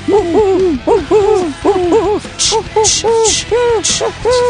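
Burrowing owls, the owls of the vizcacha burrows, give a rapid series of short, rising-and-falling hooting calls, loud, with brief hissy bursts mixed in toward the end.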